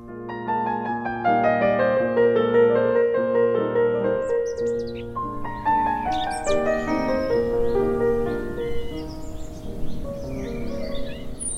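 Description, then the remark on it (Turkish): Birdsong chirps and trills in the upper register from midway on, layered over steady, sustained instrumental music that carries the whole clip at moderate volume. “Kuşlar dünyası, ışık ve türkü dünyasıdır.”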